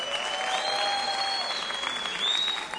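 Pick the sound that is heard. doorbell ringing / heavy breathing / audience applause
audience applause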